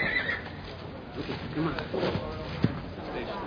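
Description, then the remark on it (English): A female racehorse whinnies and snorts, with faint hoof shuffling and a sharp knock near the end; muffled voices may be mixed in. “Your daddy always say, you listen to a horse, he'll tell you how he feels.”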